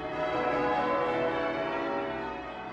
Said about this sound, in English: We open this Christmas interlude with an extract from Tennyson's In Memoriam, in which the sound of bells predominates, announcing the Christmas message of peace and goodwill.